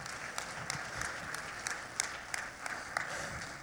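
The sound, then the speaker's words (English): A crowd claps their hands in praise on a Sunday morning, a dense wash of many hands with sharper individual claps popping out at a brisk, uneven rhythm, moderately loud throughout. “Come on, clap your hands and give him praise.”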